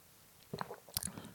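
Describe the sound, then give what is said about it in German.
A quiet sip of sweet premium direct-pressed juice after a toast: a few soft wet mouth clicks and a brief slurp, followed by a small swallow-like smack, with no talking. “Prost. Cheers.”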